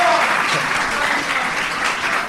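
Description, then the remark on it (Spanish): Steady, dense applause from a studio audience welcoming Carlos Cano, a Spanish shot put and discus thrower, in a sports segment: a continuous crackling wash of clapping hands at even loudness for a couple of seconds, with no voices over it. “¡Un fuerte aplauso para Carlos Cano!”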